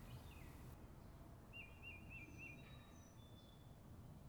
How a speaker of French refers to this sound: Un oiseau se met à chanter, tout près des deux garçons,